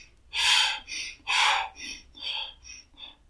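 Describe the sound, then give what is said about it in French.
A voice imitates the panting of someone out of breath while walking: about seven quick, breathy huffs in a steady rhythm, the first few strong, the rest softer. “Et donc, quand on fait quinine, la marche, c'est quelqu'un qui serait essoufflé, il ferait...”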